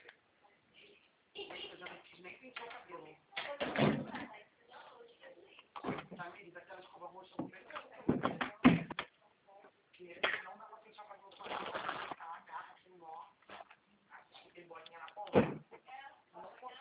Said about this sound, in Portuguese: Fecha a porta para os dois não saírem.